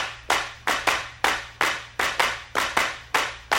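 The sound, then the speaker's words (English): Sharp, bright hand claps repeat about eleven times in an uneven pattern in 22/8 time, each clap ringing briefly, over a low sustained musical tone with no voices, part of a jazz fusion track. “there's a clapping part in this”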